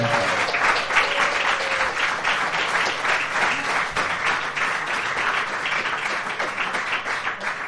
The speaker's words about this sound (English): But how about a round of applause for their performance?